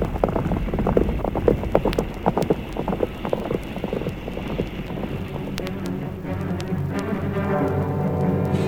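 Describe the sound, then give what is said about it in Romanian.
Horse hooves clip-clop in a quick, steady rhythm for several seconds, fairly loud, as riders set off on horseback in a hurry, then give way to a steady low droning hum with scattered knocks. “Repede, pe cai, da-o.”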